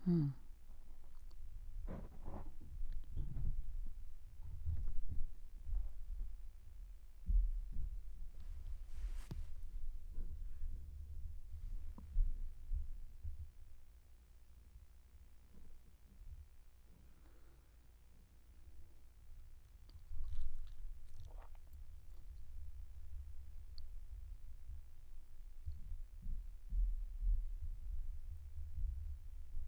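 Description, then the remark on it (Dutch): Children upstairs rolling chairs around make a low, steady rumble, broken by irregular dull thumps and small clicks, continuing throughout with no one speaking. “Sorry, maar ze waren met de stoelen aan het rijden en dat hoor je.”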